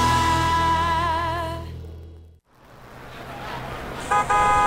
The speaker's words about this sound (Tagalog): Tara na, yan na yung jeep.